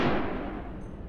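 gunshot

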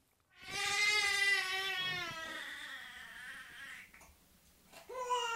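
three-month-old baby crying

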